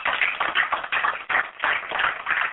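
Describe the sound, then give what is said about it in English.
A church audience claps for the pastor in dense, steady applause, the crackling texture swelling and dipping in loose waves for a few seconds with no voices over it. “Can you please give a hand of applause for him?”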